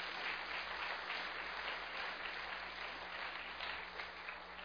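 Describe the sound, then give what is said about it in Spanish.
A crowd claps for the King in sustained, dense applause that holds steady at a fairly even level for several seconds with no voices standing out, easing only slightly toward the end. “Denle un aplauso al Rey, se lo merece.”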